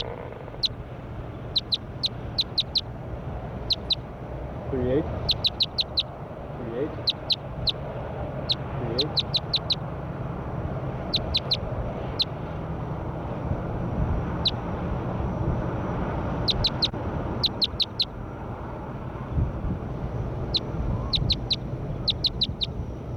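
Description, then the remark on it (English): Bird calls from bird number 38 being recorded ring out in quick clusters of sharp, high-pitched chirps, repeating every second or two against a steady, rumbling background noise. “Start recording bird 38.”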